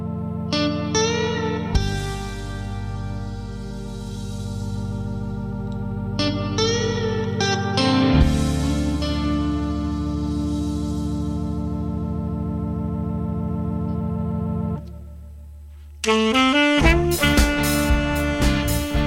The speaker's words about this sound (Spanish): Bueno, pues vamos a escuchar unos segundos, ¿no?, de esta música que escucharemos el sábado.